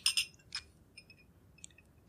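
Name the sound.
glasses clinking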